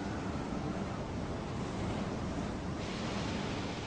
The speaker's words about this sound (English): Rain lashed down. Visibility was poor, and the channel was stormy. A large storm arose in the English Channel.